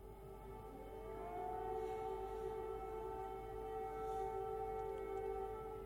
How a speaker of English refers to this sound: Now sirens have sounded throughout Kyiv as Russia has launched fresh airstrikes on the Ukrainian capital.